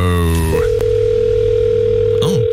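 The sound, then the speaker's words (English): A telephone tone on a call: a steady, mid-pitched electronic hum holds for about two seconds over a low buzz, after a brief rising harmonic sound at the start. “Oh, it's not an answer phone ringtone, is it?”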